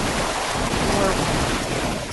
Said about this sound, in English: I don't know if you're hearing any... I heard it sounds like a washing machine or something is going, but it's okay.